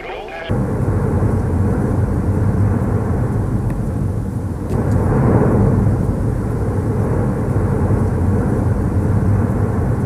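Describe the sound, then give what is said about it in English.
A loud, continuous low rumble from the erupting Cumbre Vieja volcano on the Spanish island of La Palma, thick with ticking, crackling texture, swelling slightly around the middle and holding steady throughout, with no talking. “This ticking sound echoes all over the Spanish island of La Palma, like a phone call from Satan himself.”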